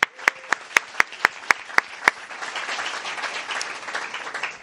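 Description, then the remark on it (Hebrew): A crowd at Beit HaArava in Rehovot breaks into applause for themselves: about two seconds of sharp, evenly spaced claps, then a dense, steady wash of many hands clapping at once, moderately loud. “היום אנחנו כאן, כיף לנו להיות, שמחים שבאתם, קודם כל כפיים לכם.”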